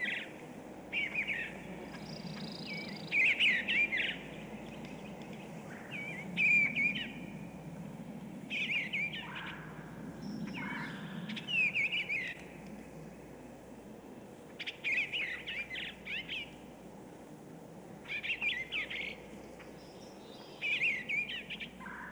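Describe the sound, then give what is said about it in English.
A bluebird, a thrush, sings short, soft warbling phrases, repeated every few seconds over a steady low rumble of background noise, with no voices. “The bluebird is a fairly common thrush that stays mostly in open rural areas.”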